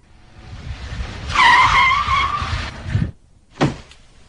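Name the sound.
car braking suddenly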